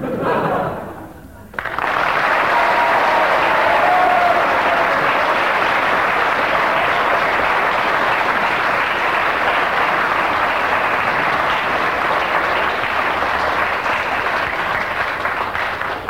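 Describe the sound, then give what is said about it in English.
Lukewarm, half-hearted audience applause starts after a brief pause and continues as a steady, even patter of clapping for around fourteen seconds, moderately loud, without building or swelling. “Ten seconds of rather half-hearted applause there, giving him three marks.”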